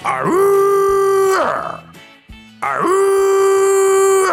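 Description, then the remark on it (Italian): A voice imitates a siren with two loud, sustained wails, each sliding up in pitch and then holding steady, separated by a short pause. The sound is clear. “Invece la sirena è questa.”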